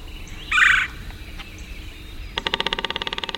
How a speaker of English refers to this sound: It's morning on the bayou. Cypress trees draped with Spanish moss rise from still, dark water. A red-bellied woodpecker calls and then drums on an ancient snag.